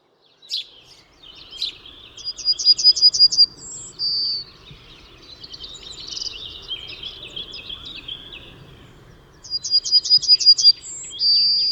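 A yellowhammer sings twice: a fast, even run of high, thin notes ending in a drawn-out final tone. Softer chirping from other birds fills the gap between the two phrases.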